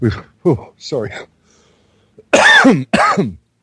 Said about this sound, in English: Bit of a cough. That sounds great. We've got to walk away from this system. No, I've had a bit of a chest cold lately. Bit of a chest cough.